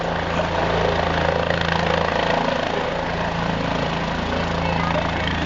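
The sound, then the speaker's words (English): A loud, steady drone of a helicopter landing at a baseball game before the first pitch, with a constant mechanical rotor whine and low hum, holding at the same level throughout without fading in or out. “And we were wondering, game one, what happens if the helicopter can't take off and you just then have to play around it?”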